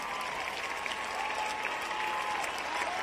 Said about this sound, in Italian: Grazie. Fatelo questo applauso che arriva, arriva.